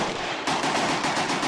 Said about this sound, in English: That's the sound of an AK, the Kalashnikov automatic assault rifle, commissioned by Joe Stalin. It was a battlefield staple of the Cold War, but today it is perhaps the symbol of war itself.